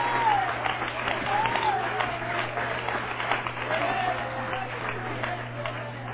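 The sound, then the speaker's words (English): A church audience claps at the preacher's call, a dense, continuous patter of many hands at an even loudness, with a few voices calling out over the applause and a low hum underneath. “Would you clap your hands, everybody?”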